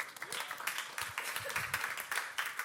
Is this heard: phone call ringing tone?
no